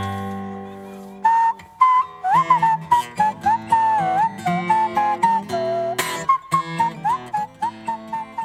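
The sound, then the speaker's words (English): A person whistles a clear, wavering melody, the pure tone sliding between notes in short phrases over a soft instrumental backing, with no talking. “Now, what I need to point out for our listeners is that beautiful whistling tone they heard is coming from your head, right?”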